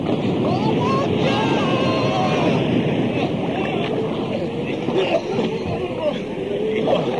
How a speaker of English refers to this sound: Oh, listen to that wind.